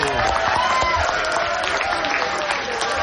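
An audience applauds steadily for about three seconds, a dense wash of clapping with cheering voices mixed in, holding at a fairly loud, even level throughout.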